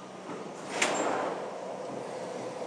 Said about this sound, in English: Right, here comes the train. For those who don't know the Jubilee line, haven't listened to my hundreds and hundreds of other boos on travelling on here, has platform edge doors. Which are about to swish open. Wait for this.